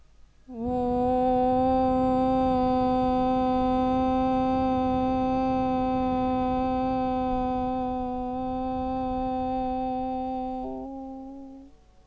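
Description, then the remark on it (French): A single voice chants a long, steady Om on one unwavering mid-pitched note for about ten seconds, vibrating it through the whole body to the end of the breath, rich and resonant, shifting into a closing hum before fading out. “On fait vibrer le son Om dans tout le corps.”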